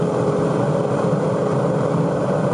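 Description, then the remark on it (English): A Formula One car's engine holds a steady, loud roar at a constant high pitch as it runs in fourth gear through a very fast section of a circuit, with dense rumbling noise and no pauses or voices. “This next part of the circuit in the Formula One car is very difficult, because you're in fourth gear and it's very, very, very fast.”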